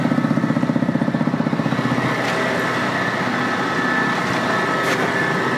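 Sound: tractor engine running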